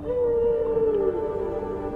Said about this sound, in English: Listen. The whales are calling.